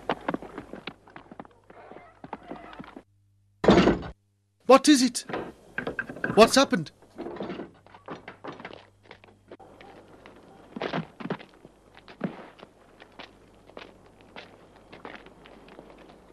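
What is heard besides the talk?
door being broken down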